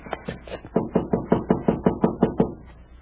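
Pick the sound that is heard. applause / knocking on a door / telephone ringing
knocking on a door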